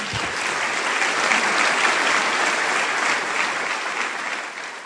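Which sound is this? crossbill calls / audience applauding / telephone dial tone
audience applauding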